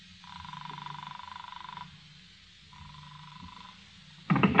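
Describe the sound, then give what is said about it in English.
A telephone rings unanswered, two long electronic ring tones separated by a pause, sounding as if heard through a receiver, before a sudden loud rustling clatter at the end. “17 rings. They don't answer.”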